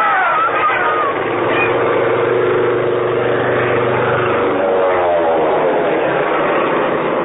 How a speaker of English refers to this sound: The plane was low, making a run right down Main Street. No bombs, no strapping, just leaflets. A flurry of leaflets, and then it was gone.